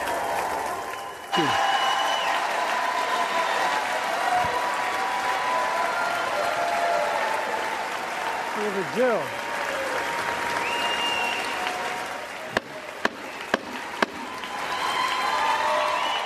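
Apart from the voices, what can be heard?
big audience applause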